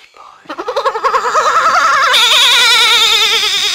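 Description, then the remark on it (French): A little goat bleats in one long, loud, quavering cry, its pitch wobbling rapidly up and down, growing harsher and brighter partway through before it holds steady to the end. “Par Dieu, quel est ce râle? Angelo! C'est la chèvre! La petite chèvre!”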